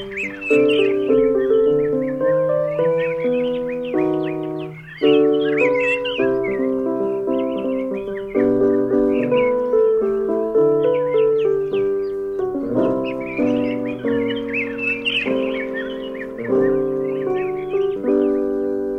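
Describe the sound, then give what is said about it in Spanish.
Bird chirps and calls sound above a steady, gently strummed acoustic song playing throughout, the birdsong recurring in short bursts over the music with no talking. “Claro que sí, como el canto de los pájaros.”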